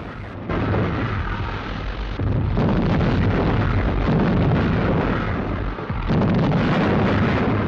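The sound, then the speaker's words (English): A heavy artillery barrage from fort guns firing on a warship roars continuously, with repeated deep booms rolling into one another over a dense, rumbling wash of noise; loud, with no voices. “The guns continue to unleash a blistering offensive, enveloping the Amethyst in smoke and spray.”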